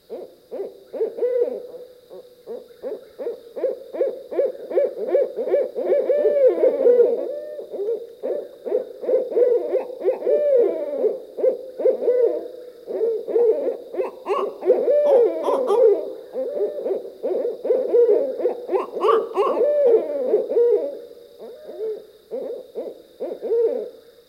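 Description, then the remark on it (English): Two barred owls, members of a pair coming together, hoot wildly together in a long, overlapping duet of rising and falling cackling hoots, loud and continuous, building to frantic peaks, with no talking. “When members of a pair come together, they often hoot excitedly, like noisy monkeys participating in a vocal reunion.”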